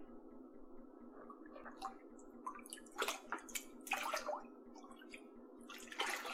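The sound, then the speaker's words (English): Water sloshes and splashes in a filled bathtub, with irregular bursts of movement over a steady low hum, moderately loud, no voices. “How's the water? Is it too warm for you?”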